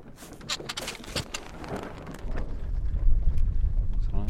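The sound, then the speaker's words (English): A sailing boat almost head to wind on a river on the Norfolk Broads, England, with no other boat in sight, in a steady wind, with water slapping and rigging ticking early on, then gusts rumbling heavily across the microphone as the wind builds. “Almost head to wind at the moment.”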